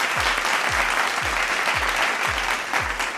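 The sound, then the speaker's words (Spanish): Steady, dense applause from a show's audience celebrating its 13th programme, loud, with a regular thumping beat underneath every half second or so, like a kick drum pulsing through the clapping. “Hoy es el programa número 13. Con aplausos.”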